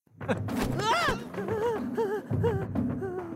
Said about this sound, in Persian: وای خدا این صدای تبلا چقدر ترسناکه.